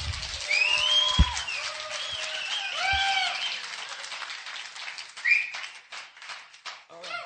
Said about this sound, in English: Now, I'm trying harder than you're clapping.